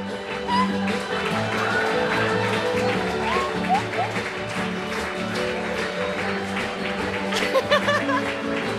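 A crowd claps and cheers in a steady, dense wash of applause lasting several seconds, with scattered laughter and voices mixed in and a few sharper claps near the end.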